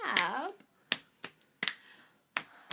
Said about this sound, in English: Oh, a snap.